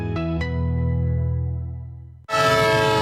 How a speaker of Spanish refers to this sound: Un tren que se va. Otro tren que se le escapa a tu empresa.